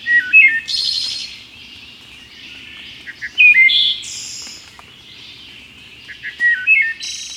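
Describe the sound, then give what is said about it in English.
A wood thrush, a North American songbird, sings alone, repeating fluting, flute-like phrases that end in airy trills, three or four clear bursts spaced a couple of seconds apart against a quiet background. “Some believe the song of the wood thrush to be the most beautiful bird song in North America.”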